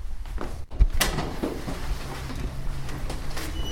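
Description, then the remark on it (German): A door at the back of a dark corridor opens with a sharp knock or latch click, then a low scraping rumble as it swings, over a steady faint hum. No voices. “Hier hinten ist noch eine Tür.”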